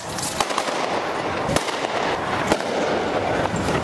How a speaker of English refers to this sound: Tear gas canisters and gunshots rang in the air as Kenyan anti-riot police dispersed thousands of protesters, both from the opposition and the ruling party. The two groups had gathered outside Kenya's Electoral Body Commission offices in Nairobi.